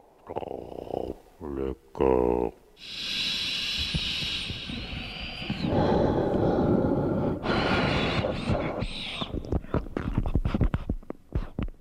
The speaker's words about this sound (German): Wenn man so in den Untersuchungsraum kommt und man hört ihn schon irgendwie von Weitem pfeifen und giemen, sagt man, dann weiß man schon, okay, hier liegt ein Lungen- oder ein Herzproblem vor.